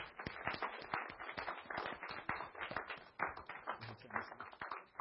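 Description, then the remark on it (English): An audience applauds steadily to welcome a speaker up, a dense patter of many hands clapping at once that holds at an even, moderate level for several seconds without anyone speaking. “why don't you come up and let's give her a welcoming applause.”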